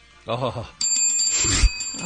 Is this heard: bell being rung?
yes